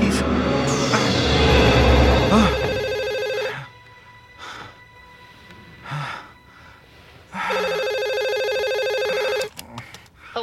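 A telephone rings twice, each ring a loud, sustained electronic trill lasting about two seconds, with a few seconds of near-quiet and faint shuffling between them.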